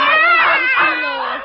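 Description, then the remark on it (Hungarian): A single long, drawn-out meow, loud, its pitch wavering slightly before trailing off. It sounds like a human voice imitating a cat. “Miau, szeretlek mind a kettőtöket, amennyire megérdemlitek.”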